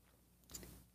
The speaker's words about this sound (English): Fill it with your favorite liquid. I like coffee. And join me now for the unparalleled pleasure, the dopamine to the day, the thing that makes everything better. It's called the simultaneous sip, and watch it do its magic now. Go!